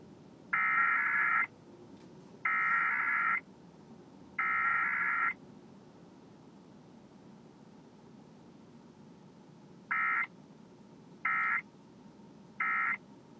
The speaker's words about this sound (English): This has been a test of the emergency alert system. If there had been an actual emergency, official messages would have followed the alert tones.